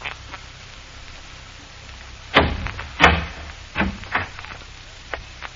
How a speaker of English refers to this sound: You can stop and lift the latch on that door, please.